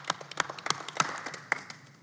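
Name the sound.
group applause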